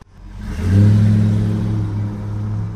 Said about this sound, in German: Erleichtert stieg der Autofahrer ins Auto und fuhr weiter.